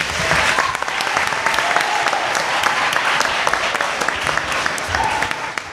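A crowd applauds steadily for several seconds, a dense wash of many hands clapping at an even loudness throughout with no break or lull.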